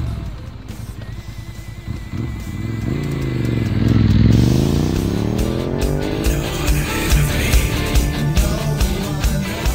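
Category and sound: vehicle, motorcycle engine revving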